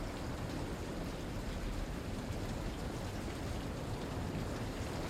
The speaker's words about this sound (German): Der Regen lässt die Pflastersteine glänzend schimmern und hier und da sammeln sich kleine Pfützen